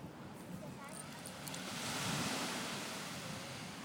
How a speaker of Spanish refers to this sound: Eso, que se oigan las olas.